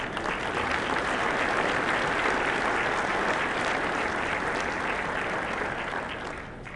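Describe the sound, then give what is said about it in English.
A sustained round of applause from a sizable audience giving thanks to departing colleagues, dense steady clapping at full strength for several seconds before beginning to taper off at the end, with no speech over it. “They're probably not here, but in their absence, we'll say thank you with a round of applause.”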